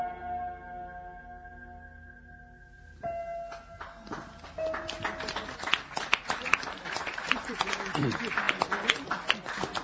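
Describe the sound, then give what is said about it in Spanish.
A sustained tone gives way to a few scattered claps that gradually thicken into full, steady audience applause after a short story is read aloud, growing louder toward the end with faint voices mixed in. “Le costó arrancar el aplauso, ¿qué pasó?”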